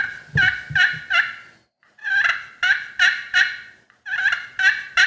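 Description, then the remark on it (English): Raspy turkey hen yelps made on a turkey call in three quick bursts of three or four notes each, loud, with short pauses between series and no talking. “You can kind of hear the raspiness in there.”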